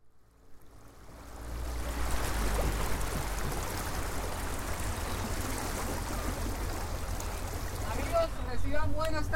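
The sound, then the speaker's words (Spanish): Water rushes steadily past a canoe moving along the Magdalena River through a wetland of channels and marshes, rising from near silence into a continuous wash over a low rumble, with a voice briefly emerging near the end. “Hoy, más allá de la historia y la arquitectura, nos iremos en una canoa a contemplar la vida silvestre, el agreste paisaje de un humedal atravesado por caños, ciénagas y el mismo río Magdalena.”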